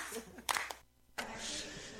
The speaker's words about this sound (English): hand claps.